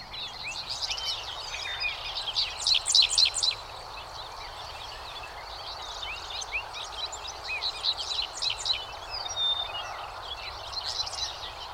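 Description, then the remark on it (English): A dickcissel dominates, singing repeated buzzy, chirpy phrases amid many other birds singing, with a steady low rumble of a busy highway out beyond the fields underneath throughout. “The following recording is dominated by a dick thistle, but there are many other birds singing, plus a busy highway out beyond the fields.”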